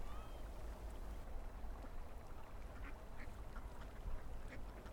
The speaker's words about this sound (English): Oh, my favorite sounds here are the sounds from the ravens. There are a lot of ravens here. And it sounds like they have arthritis in their wings when they fly. The ravens have a special meaning to me.